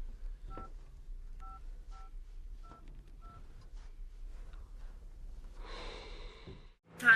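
phone keypad dialing tones

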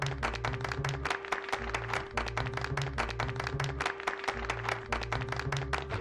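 applause

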